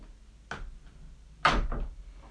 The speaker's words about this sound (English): Please close the classroom door and lock it in and have a seat.